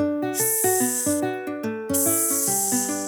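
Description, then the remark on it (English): A voice imitates a snake's hiss in two long, steady bursts, the second longer, over bright plucked musical accompaniment with a bouncy melody. “Will you hiss like a snake with me?”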